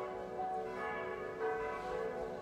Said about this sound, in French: que toutes les cloches se mettent à sonner et que les enfants sont dispensés d'école